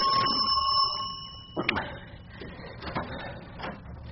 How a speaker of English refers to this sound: That's never the front doorbell at this time of night. Oh, it's not. It's a remarkably good imitation.